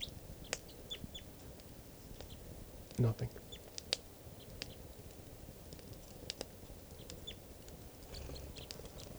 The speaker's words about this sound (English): The birds are sitting in some low deciduous trees right around the camp. And they're coming down, chittering. One of them's perched on the net top rung.